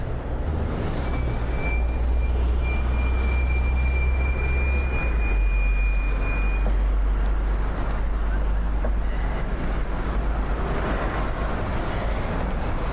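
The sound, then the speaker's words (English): A tiny green city bus pulls up on a London street, its engine rumbling deeply while a thin high whine sounds for several seconds, then the heavy motor keeps idling steadily over outdoor street noise. “Oh, tiny green bus.”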